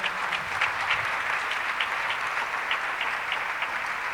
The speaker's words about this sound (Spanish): Y si le crees esto, dar un fuerte aplauso al Señor.